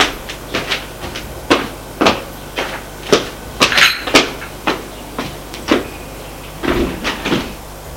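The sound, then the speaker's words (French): A woman gets up and leaves the room through a door: a quick series of sharp wooden knocks and clatters, about a dozen over several seconds, with no talking. “Elle se lève et sort de la pièce.”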